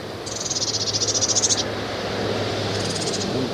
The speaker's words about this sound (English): I didn't get all of that call. It was a very high whistle. And it's just begging calls now.